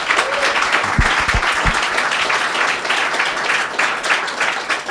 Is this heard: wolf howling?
no